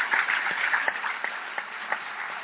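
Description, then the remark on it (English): A crowd applauds steadily for Ta-Nehisi Coates and James Bennett, a dense wash of many hands clapping with a few sharper individual claps standing out, sustained at an even level throughout, slightly muffled. “Please join me in a warm round of applause for Ta-Nehisi Coates, for James Bennett,”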